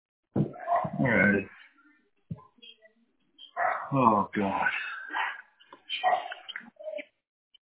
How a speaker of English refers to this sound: I hear him. What kind of dog is that? There's 10 different dogs. Oh, my God. Stop, 10 different dogs?